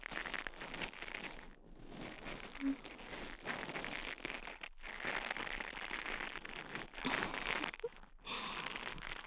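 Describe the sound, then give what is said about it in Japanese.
Dense crackling and rustling of the bristles of a brush-type ear pick massaging inside the ear, continuous with a few brief pauses, soft and textured like fine scratching. “今度は、ブラシ型の耳かきで、耳をマッサージしていきます。”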